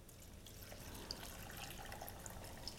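Salt brine pours steadily over vegetables in a container for a few seconds until they are covered, a soft continuous splashing with small bright drips and gurgles, fairly quiet, with no one talking.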